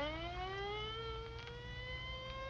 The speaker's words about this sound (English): Well, there goes the ambulance.